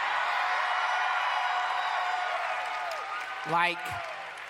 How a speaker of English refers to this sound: You shouldn't cheer yet. You should wait for the end.